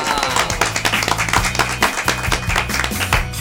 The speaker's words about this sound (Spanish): Y le damos la bienvenida con un aplauso.